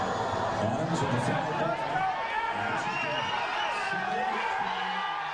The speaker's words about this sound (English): Those are Chicago Cubs fans, and they're cheering, celebrating, because on Thursday, Chicago clinched the National League Central Division for the first time since 2008.